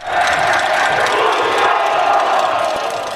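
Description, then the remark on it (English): A huge crowd of Mexico soccer fans at Soldier Field yells a chant together as a goal kick is taken, a loud, dense roar of many voices held steady for about three seconds with only a slight fade at the end. “Every time they yell it, they get a fine for it.”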